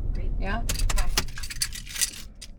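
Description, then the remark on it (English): A car engine cuts off, followed by keys jangling in a run of bright metallic clinks over a low rumble, with faint voices murmuring underneath. “Turning off the car?”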